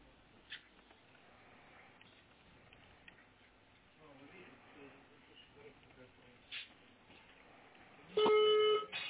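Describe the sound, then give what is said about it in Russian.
Quiet muffled rustling and faint background voices, then near the end a loud, steady electronic phone tone abruptly begins: the dialing signal of an outgoing phone call going through. “Нет, исходящий идет. Исходящий пошел, да?”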